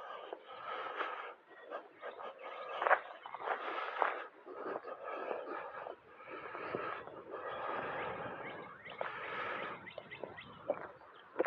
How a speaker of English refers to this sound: Isn't it funny how the birds make that weird sound when they fly?